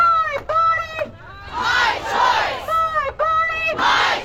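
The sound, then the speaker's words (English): Thousands of people in Colorado protesting the U.S. Supreme Court decision overturning Roe v. Wade: a crowd chants in loud, rhythmic unison, sustained harmonic shouts repeating in bursts, alternating with swells of broad, roaring crowd noise and cheering. “Thousands of people around Colorado gathered this weekend to protest the U.S. Supreme Court decision overturning Roe v. Wade.”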